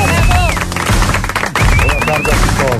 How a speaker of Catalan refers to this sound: Un aplaudiment! Bravo!